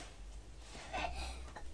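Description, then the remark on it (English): A single short sneeze, soft and fairly quiet, bursts out once amid faint background hiss and no talking. “Oh, bless you.”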